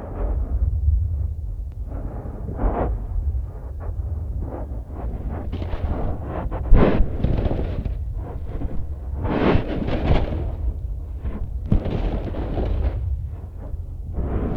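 Deep, rumbling booms of waves pounding a lake shore, heard through sand dunes on microphones turned up high, with heavy low-end thuds rolling in continuously and brief brighter surges as each wave breaks. No voices.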